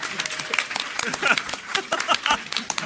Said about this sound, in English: Everyone, round of applause for Chris Bane.